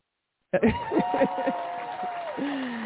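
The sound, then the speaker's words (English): After a brief silence, an applause sound effect of crowd applause and cheering kicks in abruptly and keeps going steadily, with a few sharp claps up front and a voice whooping over the clapping. “Give him a hand clap”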